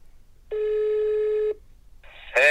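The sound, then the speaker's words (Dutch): A phone call being placed from a studio: a steady electronic ringing tone holds for about a second, then after a short gap a buzzy tone gives way to a louder warbling chirp. No one speaks. “Oké, ik bel hem erbij.”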